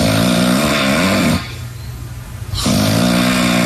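Loud, rumbling snoring from a sleeping husband: a buzzy snore, a brief quieter breath, then another heavy snore. No one speaks.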